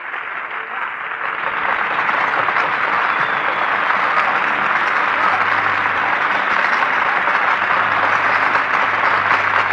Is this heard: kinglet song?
no